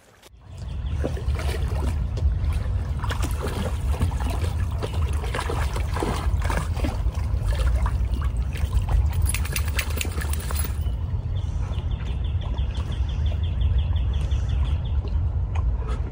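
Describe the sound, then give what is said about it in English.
Steady water trickling and splashing as dogs cool down and get a drink on a warm day, with a constant low rumble beneath and scattered brighter splashes throughout; no one speaks. “It's nothing like the water on a nice warm day, huh?”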